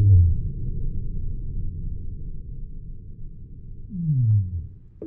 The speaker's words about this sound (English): It's at like 10 hertz. And the other whales make sounds up to like, let's say, 100, 300 hertz. But that's still extremely low. So if you hear these recordings, they're like, and we can barely not register the end of it.